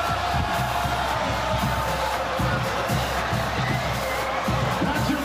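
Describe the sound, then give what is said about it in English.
A huge stadium crowd roars and cheers continuously as fans storm the field after FSU knocks off Alabama, a dense wall of shouting voices and whoops with no pauses, loud and sustained throughout. “Fans storm the field. FSU knocks off Alabama.”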